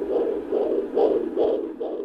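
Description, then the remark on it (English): A fetal heartbeat on a Doppler monitor during a pregnancy checkup with an obstetrician at Brookwood Medical Center, rapid whooshing pulses at a rate in the 140s, repeating about five times in two seconds, steady and fairly loud over a low hiss, with no talking. “A quick listen to the baby's heartbeat.”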